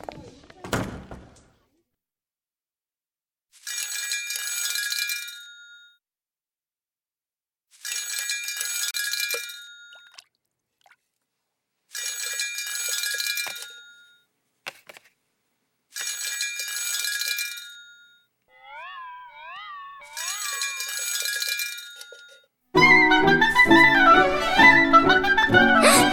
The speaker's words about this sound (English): The phone is ringing.